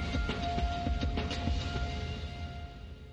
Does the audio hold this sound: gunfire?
no